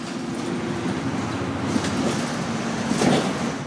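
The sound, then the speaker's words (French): Steady engine rumble inside a vehicle while someone boards a bus, with a couple of brief clunks and a hissing door-like sound near the end. No one speaks. “Prendre le bus.”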